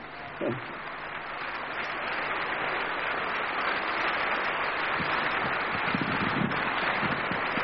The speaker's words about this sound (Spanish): Ahora sí, demos un fuerte aplauso al Señor Jesús.